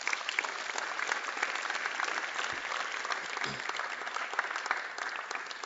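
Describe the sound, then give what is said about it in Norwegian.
Sustained audience applause for the volunteers of a church fills the whole stretch, a dense, steady wash of many hands clapping at once, fairly loud and even, with no voices standing out above it. “Så kan ikke vi gi en stor applaus til alle frivillige for å gjøre det.”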